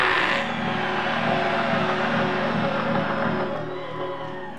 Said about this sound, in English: I'm gonna scream at y'all and I want you to yell back. Yeah!